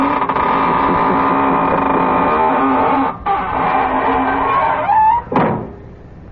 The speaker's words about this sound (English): Well, now it's time to close the squeaking door.